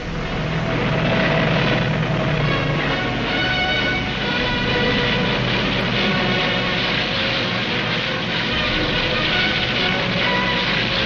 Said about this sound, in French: Sans répit, les avions allemands s'envolent vers l'Angleterre. Ils bombardent nuit et jour les buts militaires de la capitale anglaise.